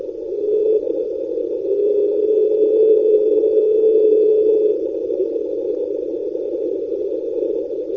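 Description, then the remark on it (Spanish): An underwater hydrophone recording from March 1997, called 'Train', of a steady, train-like rumbling drone with a humming tone running through it and a faint high whine above, continuous for the whole stretch with no voices. “Sí, sí, parece realmente el sonido de un tren, ¿no?”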